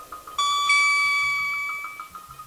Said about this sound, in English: Don't forget to turn the page every time you hear the chime.